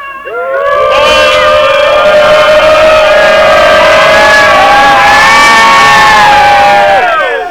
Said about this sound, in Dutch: Oké, we gaan nog even met z'n allen afscheid schreeuwen, geloof ik.